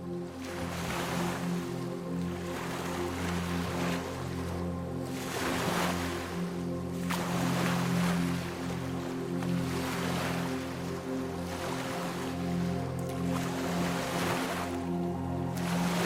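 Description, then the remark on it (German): Ocean waves wash and swell steadily around a boat, with repeated surges of surf over a low, constant engine-like hum. There is no talking. “Wie von Magie geleitet, führt dich dein Boot in Richtung Insel.”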